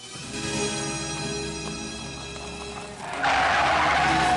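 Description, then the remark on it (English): Copeland's car engine hums steadily, then its tires suddenly screech in a loud, sustained squeal as the car makes a sudden U-turn. No one speaks. “Spotting the boys, Copeland's car makes a sudden U-turn.”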